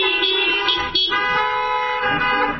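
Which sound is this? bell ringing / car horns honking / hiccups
car horns honking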